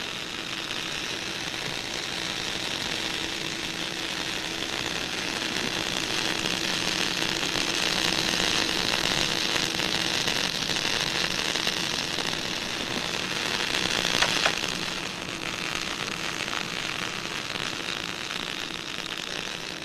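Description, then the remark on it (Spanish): Continuous radio static, attributed by scientists to energy left from the Big Bang, hisses evenly across the band for about twenty seconds, with a faint low hum beneath and a brief crackling swell midway through; no voices. “Según los científicos, es parte de la energía del Big Bang, ese primer estallido de vida que aún retumba en el espacio sideral.”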